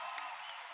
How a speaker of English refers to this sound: Actually, Harmony House folks, you want to stand up so everybody can give you another round of applause because you do amazing work?